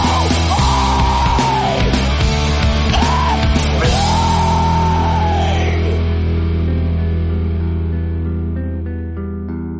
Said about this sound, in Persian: و البته یکی دیگه از این روش ها هم ادای آواز این موسیقی به شکل جیغ و داد یا فریاد بود، چیزی باز هم شبیه آواز همین آهنگی که حالا و زیر صدای من میشنوید.